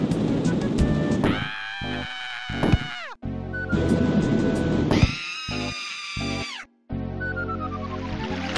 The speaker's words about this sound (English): Also, it needs to be said, the game contains these incredible Looney Tunes-style screaming sounds whenever the player crashes the aircraft, even at low speeds.